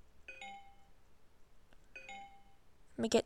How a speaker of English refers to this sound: I'm guessing the first beep is Wi-Fi and the second is Bluetooth, and JAWS likes to say dialogue again.